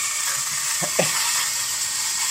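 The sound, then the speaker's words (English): A digital battery-powered electric shaver, run over a mustache, buzzes steadily with a high, hissing whir, broken by a couple of brief lower rattling bumps partway through as it catches hair. “It sounds like a tiny car.”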